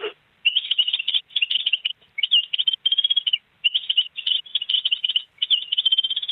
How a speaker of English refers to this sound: But the song, do you think of your granddad when you play the song, the bird song? Yeah. Oh, good. So it's a little connection with your granddad. Can I ask you to play it first so we can hear it?